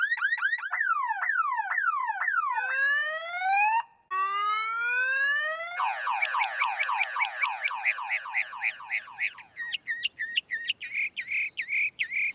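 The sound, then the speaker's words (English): A mockingbird mimics a car alarm, cycling loudly through warbling up-down sweeps, repeated rising whoops, a rapid chirping run and sharp beeping bursts, with no voices. “The particular mockingbirds that we have at times will sound like car alarms with the rising and falling tones and the beep beep, and then at the very end you can hear the when it decides it's clicked its key to turn the sound off.”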